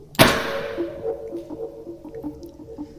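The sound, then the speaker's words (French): A mini confetti cannon fires with one sharp, loud pop that quickly fades, followed by a soft patter and a faint, steady pulsing tone underneath. It fires after a countdown, sending its contents into the air as streamers and glitter fall. “Le mini canon à confetti manipulé par Guilhem propulsa son contenu dans les airs”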